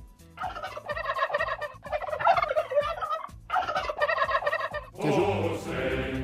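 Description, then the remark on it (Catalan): A turkey gobbles loudly, letting out several rapid, rattling bursts back to back with brief pauses between them, the last one rougher and noisier. “Ah, guaita, avui és el dia del gall dindi.”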